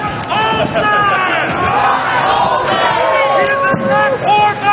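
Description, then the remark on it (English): A large crowd of protesters blockading the doors of the Washington Convention Center shouts and chants together outdoors, many overlapping voices rising and falling in a loud, continuous roar with occasional higher yells cutting through. “And while other groups have taken over the streets, the doors of the convention center are also blockaded by protests.”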